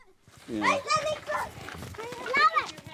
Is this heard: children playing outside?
yes